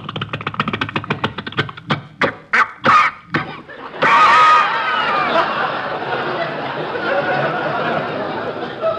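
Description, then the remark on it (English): A pull-started generator engine, started by winding a rope around the flywheel and pulling, coughs and sputters in a quick, uneven burst of pops, then catches and settles into a steady, rough running drone, its exhaust smoking, with faint voices underneath. “Just wind the rope around the flywheel, thus, uh-huh. And pull.”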